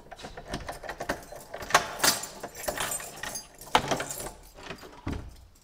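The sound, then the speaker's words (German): A bunch of keys jangles and clinks repeatedly, with metallic rattles and a clunk of a door latch being worked open, no voices present. It is a door inside the chapel of St. Nikolaus being unlocked, leading not to a sacristy but to a sleeping room. “Was man jetzt eigentlich in keiner Kapelle sonst findet, in Deutschland, glaube ich, das ist, dass wir jetzt in der Kapelle eine Tür öffnen und dann kommen wir nicht in die Sakristei, sondern wir kommen in einen Schlafraum.”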